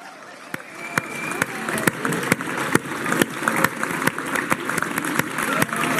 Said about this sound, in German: Rein die letzten Meter, unser Mega-Applaus. Christoph Strasser, Transaustria 2023.